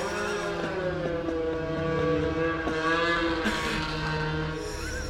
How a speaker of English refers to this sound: What's going on? Snowmobiles. Snowmobiles going by.